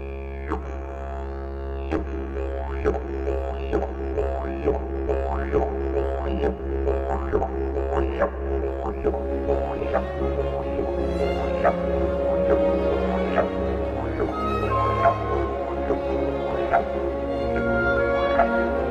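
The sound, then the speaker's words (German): A rehearsal recording of a first movement with the didgeridoo as solo instrument: it drones steadily on a deep, buzzing low note with rhythmic, growling pulses, while orchestral strings and winds play sustained, Beethoven-like chords above it. Moderately loud throughout, with no talking. “Hören wir mal diesen ersten Satz uns an, in dem das ungewöhnliche Soloinstrument, nämlich das Didgeridoo, auch zu hören ist.”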